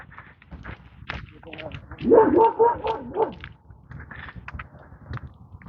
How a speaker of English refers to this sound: Got a little porthole. Literally a glass, or probably plastic, window. Like half a sphere. On the outside of the fence, he can stick his nose in it and bark. That's adorable.